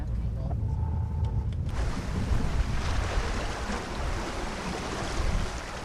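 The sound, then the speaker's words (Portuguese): Sea waves surge and wash around the boat landing at the Bugio Fort, where access is exposed to the action of the sea, in a steady roar, with heavy rumbling wind buffeting throughout after a slightly quieter opening moment. “No local de acostagem da embarcação, o acesso torna-se perigoso porque está sujeito à ação do mar.”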